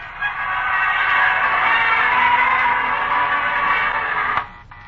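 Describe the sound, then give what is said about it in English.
A dense, steady roar of thousands of people in Times Square waiting to usher in the new year three hours before midnight, many voices blending into one continuous wash of noise for about four seconds before cutting off abruptly. “We're broadcasting from the heart of Times Square, surrounded by thousands of persons waiting to usher in the new year just 3 short hours away. Listen to that crowd.”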